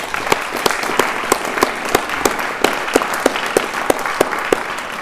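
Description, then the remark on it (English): A round of applause from an evening meeting audience for all who shared that evening: steady, dense clapping of many hands with a few sharper claps standing out in a regular beat, sustained for several seconds with no talking. “In closing, if we could please just a round of applause for all that shared this evening,”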